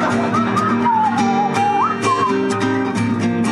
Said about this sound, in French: Elle est capable de siffler, s'il vous plaît.